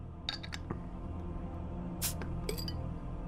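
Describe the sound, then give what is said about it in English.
A bottle opener clinks against a 32-ounce glass Corona Familiar beer bottle a few times, then the cap pops off with a short hiss and a final rattle, with no talking. “I've always just drank Corona Extra, so got my handy-dandy bottle opener, Corona, and this big bully right here. It's a 32 ounce. So let's crack this open and give it a taste test.”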